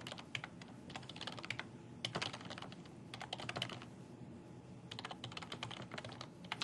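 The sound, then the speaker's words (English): Rapid keyboard typing in irregular bursts, a quick clatter of keys with short pauses between runs, fairly quiet with no one speaking, as someone types sample data into rows. “So I'm going to go down here and let's start putting in some sample data.”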